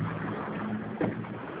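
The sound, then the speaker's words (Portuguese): A bus rolling past: a steady, fairly loud engine rumble with a low droning hum and broad road hiss, plus one brief bump partway through. No one speaks. “Só um minutinho, deixa eu passar o ônibus aqui para me escutar melhor.”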